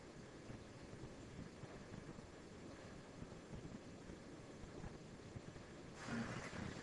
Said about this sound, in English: Spaceship. We turn on the engine.